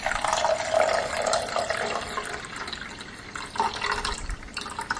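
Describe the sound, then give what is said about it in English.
A cup of filtered water pours steadily into a 2-cup measuring cup with lines on the side for several seconds, a continuous splashing and gurgling that shifts slightly in pitch as the cup fills, with no voices. “And I'm going to pour a cup of filtered water into this measuring cup.”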